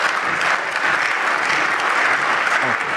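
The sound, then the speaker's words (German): Sustained applause from a large audience in a parliament, a dense, steady clatter of many hands clapping at once, loud and even throughout with no voices standing out. “Das gab natürlich wieder Applaus.”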